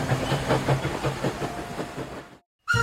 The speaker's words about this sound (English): Through the darkness, clickety-clack, coming closer down the track. Hold your breath so you can hear. Huffing, chuffing, drawing near.